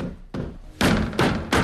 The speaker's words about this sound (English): slams his hand against the closed door.